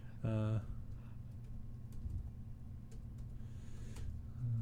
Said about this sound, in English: Are you reading what I'm typing? No, I'm not that guy. I can't read backwards.